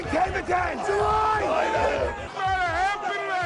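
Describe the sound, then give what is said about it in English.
Floor brokers trading coffee futures at the New York Board of Trade, from the documentary The Pit, shouting over one another in an open outcry pit, a dense, loud wall of overlapping raised male voices with no pauses, rising and falling in urgent bursts. “A group of men in colored jackets shouting at each other, waving bits of paper, gesturing wildly with hand signals.”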